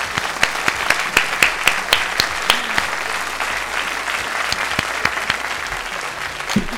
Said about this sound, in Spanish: Un aplauso para ellas, por favor.